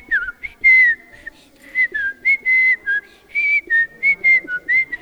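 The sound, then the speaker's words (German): Someone whistles a lively melody, a string of clear, pure notes in short rhythmic phrases that rise and fall, with a faint low murmur in the background. “Und tanzen Sie schon nach meiner Pfeife”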